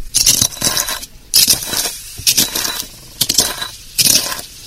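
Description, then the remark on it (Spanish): Crunchy grinding of frozen plant material in a mortar, in four or five loud bursts of gritty scraping and crackling separated by brief pauses, with no voices. “Ahora mismo la planta está congelada, y de hecho ahora van a escuchar cómo yo muelo la planta con un mortero. Se oye crujiente.”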